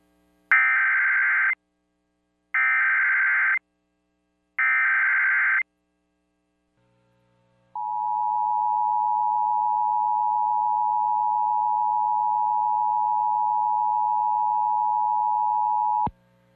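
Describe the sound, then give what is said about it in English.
Siren test of the emergency alert and notification system for Duke Power Company's Oconee Nuclear Station, sirens covering a 10-mile area: three short, harsh electronic data bursts, evenly spaced, then a pause and a long, steady, piercing alert tone held for about eight seconds. Loud and clear, no voices. “This message accompanies the testing of the sirens installed in a 10-mile area around the station.”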